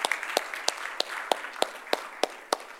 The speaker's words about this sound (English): So thank you very much for doing that. Amen. Yes, give them a hand clap.